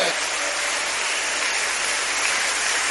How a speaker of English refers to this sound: Now if you are clapping for Jesus, you should do it very well. It's not begging you to clap, but because your hands are still there.